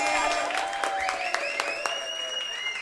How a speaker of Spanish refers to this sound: El público dio el dedo hacia arriba, ella lo pegó, fuerte aplauso para Trizón.